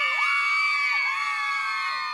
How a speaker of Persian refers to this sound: وقتی زنبورهای وحشی دور شدند، اهالی جنگل با صدای بلند هورا کشیدند.